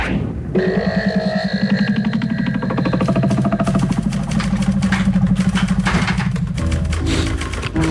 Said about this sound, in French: Alors, un scooter, c'est un scooter? Oui, c'est un oui.